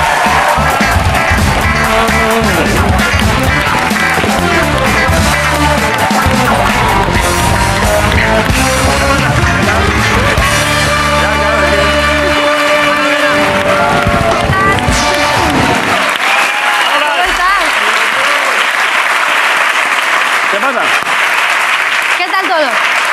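An audience on the TV show La Resistencia claps loudly and steadily to welcome a guest, the dense applause filling the whole clip, with music playing underneath for most of it before thinning out near the end.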